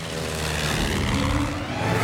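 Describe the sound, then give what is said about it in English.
A homemade propeller airplane, its engine a treadmill being run on, drones steadily as it takes off and flies out of a cave into the night sky, a low humming roar with a rushing, noisy edge that holds at an even loudness throughout, with no voices. “The propeller spins. The plane takes off.”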